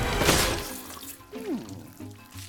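A short, hissing burst of water spraying out in a jet into the Mayor's eye, followed by a brief falling whistle-like slide and some lighter splashy noises, with no one talking.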